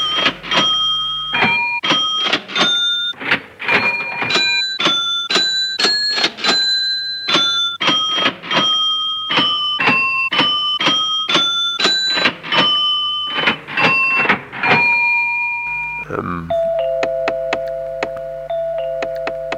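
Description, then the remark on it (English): An electronic music piece built from cash register sounds: quick, bright chime-like tones stepping through a melodic pattern, then a held tone with scattered mechanical clicks at the end. No voices. “Amazing piece that's made, I think, out of the sound of a cash register.”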